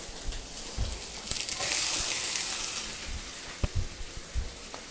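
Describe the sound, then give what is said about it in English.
Onions sizzle steadily in two big glugs of hot olive oil in a very hot skillet, a bright continuous hiss broken by occasional sharp pops and a few soft low bumps from the pan. “All right, listen to that sizzle, that's good.”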